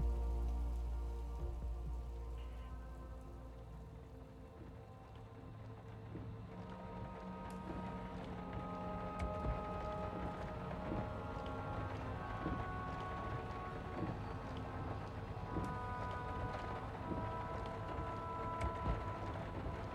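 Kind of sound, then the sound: nature, heavy rain falling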